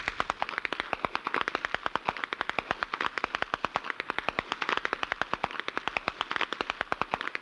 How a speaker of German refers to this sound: Wie Kanonendonner hallt es weit über die verschneiten Wiesen, wenn die Apperschnalzer gegeneinander antreten.